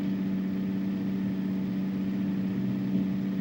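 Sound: bus engine running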